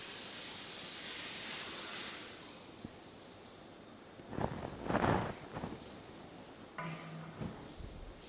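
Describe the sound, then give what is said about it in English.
Warm water pours steadily into a baptismal font with a soft, hissing rush for a couple of seconds, then stops; a few louder splashes and clunks follow, with no one speaking. “Right, we'll just add a bit more.”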